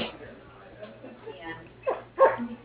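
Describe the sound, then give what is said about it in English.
A riled-up puppy whimpers and then lets out two sharp, high yipping barks near the end, heard over a thin, phone-quality line with faint muffled talk in the background. “The puppy's a little riled.”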